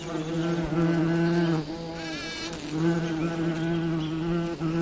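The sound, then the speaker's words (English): A steady, droning hum of bees buzzing, with a strong low fundamental and bright harmonics that waver slightly in pitch as individual insects pass, continuous for the whole stretch with no voices. “How do the bees know that the abundance of spring will return?”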